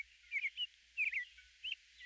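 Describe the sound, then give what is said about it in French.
A blackbird sings at daybreak on a spring morning, the sky barely pink, as the dawn chorus begins, giving three short whistled phrases with pauses between them. The bird sounds soft, and no one speaks. “Là, un merle commence à chanter. Ça part. Les autres embarquent.”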